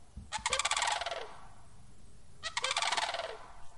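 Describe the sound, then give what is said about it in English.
Two loud bursts of rolling, rattling crane calls, each lasting about a second, separated by a short pause, with no voices present. “We can expect to see them back in our city in late February to early March, so keep an eye out and an ear out for the birds and their calls.”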